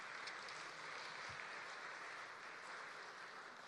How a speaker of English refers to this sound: Can you please give yourselves a warm round of applause?